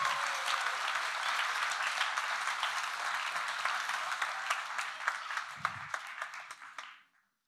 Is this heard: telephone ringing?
no